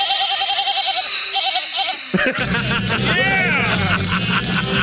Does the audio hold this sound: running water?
no